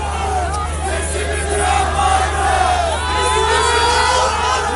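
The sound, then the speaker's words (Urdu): A large, agitated crowd shouts and roars continuously during clashes with police at gatherings marking the first anniversary of a devastating earthquake. Many overlapping voices yell at once in a dense, loud wall of sound with rising and falling cries, and no single voice stands out. “اس دوران مشتعل ہجوم کی پولیس کے ساتھ جھڑپیں بھی ہوئیں.”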